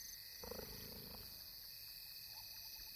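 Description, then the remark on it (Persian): A cheetah, one of two brothers, purrs at night in a short, rough, pulsing burst lasting under a second, fairly faint against a steady high-pitched hiss of insects or night ambience, then only the background remains. “چیتاها مثل اغلب گربه های بزرگ غرش نمی کنند، اما می توانند خورخور کنند.”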